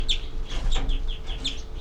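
bird alarm call

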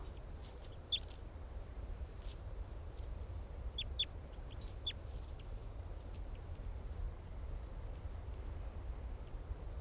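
bird calls

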